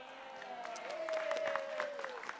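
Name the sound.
one person clapping hands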